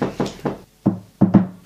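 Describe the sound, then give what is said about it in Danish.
Firm knocking on a door: three quick raps, a brief pause, then another run of four louder, heavier knocks, with no voices. “Nå ja, vi må ud og åbne.”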